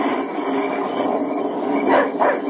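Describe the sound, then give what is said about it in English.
A dog named Dan, having smelled game, barks and yips, two sharp bursts near the end, rising above a steady, dense background roar as a storm sets in. “Keep that dog quiet. He smelled game.”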